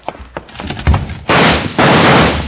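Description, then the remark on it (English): A heavy wooden back door bangs shut as somebody goes out through it, preceded by a quick clatter of knocks and followed by two loud, noisy bursts of scraping and rattling. No one speaks. “Somebody went out the back door.”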